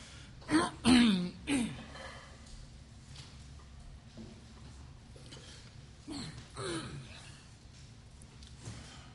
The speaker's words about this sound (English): he's always coughing and stuff